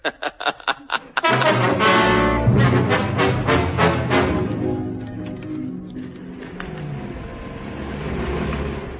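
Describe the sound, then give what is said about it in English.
A run of quick sputtering pulses as lorry engines are warmed up at dawn and turn over, then they catch and roar into a loud, sustained revving that holds steady for several seconds. “Dawn, and the 4th Armored Thunderboxes prepare for the long journey home. Are the lorries warmed up?”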